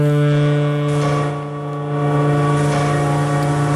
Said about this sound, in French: Des sirènes de bateaux, des cloches, vous l'entendez, il était minuit lorsque le confinement a été levé dans la ville de 11 millions d'habitants, la capitale de la province du Hubei où était apparu le coronavirus.